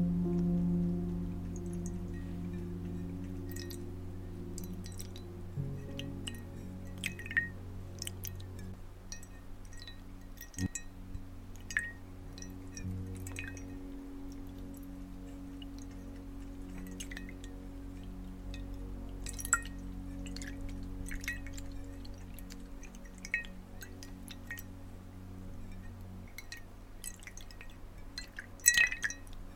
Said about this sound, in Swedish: Och då kommer jag komma med lite vatten här. Så får du bara skölja ansiktet med det. Och jag har försökt få perfekt temperatur. Så det är inte för varmt och inte för kallt såklart. Så då sköljer vi bort här med lite vatten.